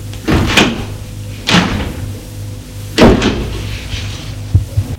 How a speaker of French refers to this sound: La lumière s'éclaire, des portes s'ouvrent.